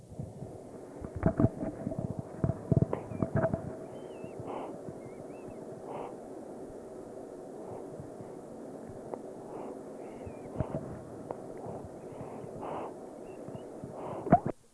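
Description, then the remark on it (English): Quiet sounds of a baby girl breathing softly, with a cluster of wet slurping noises near the start, then gentle, evenly spaced breaths over a low background hiss. No one speaks. “So if you'll listen real close again, I'll turn the mic up and it'll be real, real quiet, and you can hear her breathing and slurping just a little bit.”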